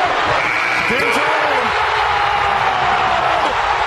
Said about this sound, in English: That explosion of sound, and people just went crazy when that happened. Like, that's exciting to me. And where was that? Denver.